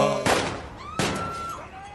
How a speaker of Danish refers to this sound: Jamen, så kan man høre, at skuddet kommer først, og så bagefter kommer den larmende alarm.